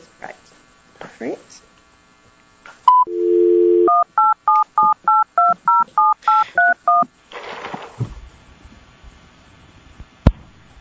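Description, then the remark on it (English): A brief steady dial tone, then a quick, evenly paced run of about a dozen telephone keypad beeps as a number is punched in to dial into a Lumen Conferencing line, with faint voices and line noise before and after. “Please enter your passcode followed by the pound or hash key, and I'll connect you.”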